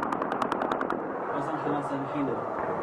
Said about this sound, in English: And this video, calls to prayer and anti-government protest chants, can be heard over heavy gunfire.